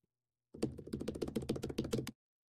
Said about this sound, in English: A keyboard.